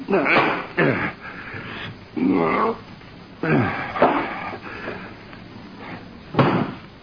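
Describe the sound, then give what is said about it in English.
A book falls off a night table, landing with a sharp, heavy thud near the end, after several softer bumps and rustles, with muffled vocal sounds in between. “I knocked a book off the night table.”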